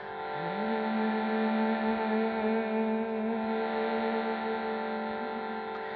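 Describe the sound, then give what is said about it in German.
A steady shruti box drone, played to accompany gentle humming on each exhale, sustains rich, reedy harmonics, its low note sliding up into place at the start and then holding evenly and fairly loud for the whole stretch, with no voices. “Und zu diesen Klängen der Shruti-Box kannst du mit jeder Ausatmung sanft summen, einen kleinen Ton mit jeder Ausatmung erzeugen.”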